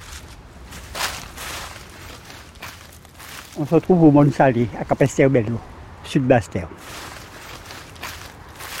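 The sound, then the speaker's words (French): Footsteps crunch through dry leaves in an irregular walking rhythm, a steady series of crisp rustling steps running throughout, with a voice speaking briefly over them partway through. “Aujourd'hui, 4e épisode, on marche dans les feuilles sèches.”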